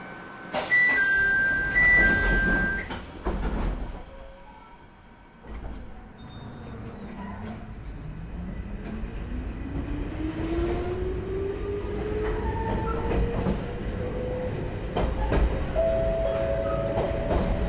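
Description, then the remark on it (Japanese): A local one-man electric train bound for Matsue Shinjiko Onsen, next stop Ōtera, pulls away after its doors close with a short chime, the motor's whine rising steadily in pitch as it gathers speed, with continuous rumbling from inside the carriage. “この電車は各駅停車の松江新宿温泉行きワンマン電車です。”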